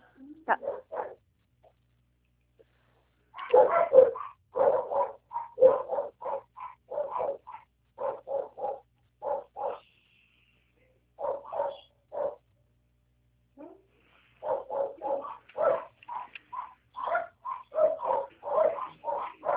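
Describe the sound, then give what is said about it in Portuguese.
Six dogs, two large and the rest small, bark in rapid, repeated bursts, loud, coming in excited clusters separated by brief pauses, with a few higher yips mixed in. “Cachorro tão bravo aí hoje.”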